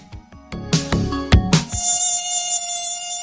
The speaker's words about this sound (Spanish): Ojalá fuera música, pero no lo es, sino un zumbido impertinente que te avisa que vienen en ataque como peligrosos kamikazes. Son esos monstruos voladores a los que llamamos mosquitos.